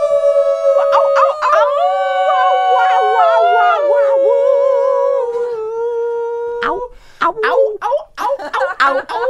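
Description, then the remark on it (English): Several people howl together like wolves for Christmas, long sustained wavering cries, loud, trailing off into shorter yelps and whoops near the end. “Howl with us, everyone. Howl for Christmas.”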